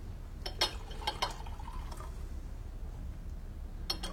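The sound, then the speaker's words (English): Scotch is poured into a glass in a few short glugging bursts over the first two seconds, followed by a brief quiet pause and a light clink at the end. No one speaks. “More scotch? Sure.”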